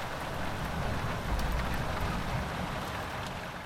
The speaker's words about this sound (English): A few moments later, the downpour began in earnest.